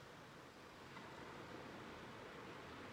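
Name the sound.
ocean waves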